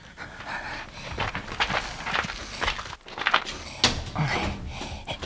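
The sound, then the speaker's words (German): The handle of a locked, staff-only door is jiggled and pulled several times in quick, uneven clunks, the door rattling but not opening, with heavy breathing and shuffling. “Da hinten ist noch eine Tür. Da steht nur für Personal.”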